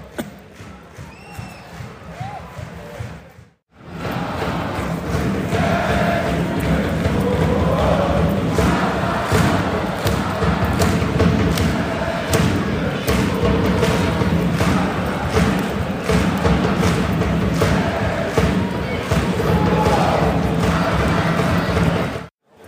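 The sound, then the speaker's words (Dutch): Firecrackers known as astronautjes, similar to kanonslagen bangers, are set off outdoors. After a few quieter seconds comes a dense, continuous barrage of sharp pops, crackles, bangs and thuds, with a busy crowd-like roar underneath. “Ja, er zitten astronautjes als soms kanonslagen. Dat is volgens mij hetzelfde. En die worden hier nou afgestoken.”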